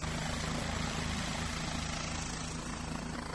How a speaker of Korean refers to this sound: 자, 이제 헬리콥터가 이륙하기 위해서 준비를 하고 있습니다. 사람들은 사진기를 들고 헬리콥터 주변에 모여 있는데요. 경찰 헬리콥터이기 때문에 더 기대감을 가지고 헬리콥터의 이륙 모습을 지켜보고 있습니다. 자, 이제 헬리콥터가 드디어 이륙을 하나요?